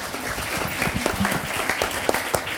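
A crowd applauds steadily, many hands clapping in a dense, continuous patter with occasional sharper claps standing out, moderately loud throughout.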